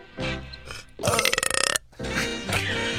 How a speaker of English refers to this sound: why do you belch into the microphone? Yeah. What's that all about?